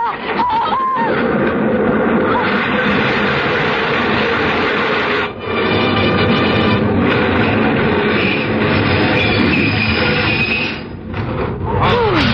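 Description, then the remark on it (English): A train pulls into a station, a loud continuous rumble and grinding clatter of wheels that fills the whole clip, with brief metallic squeals near the start and end. “Oh, the train was in.”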